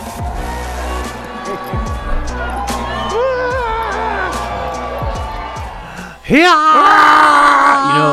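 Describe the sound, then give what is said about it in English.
At CPAC 2025, Elon Musk, on stage with a chainsaw, lets out a loud, rising shriek near the end, sustained for a couple of seconds over a roaring crowd, after several seconds of crowd noise and amplified shouting voices. “A shriek much like that destroyed Howard Dean's campaign.”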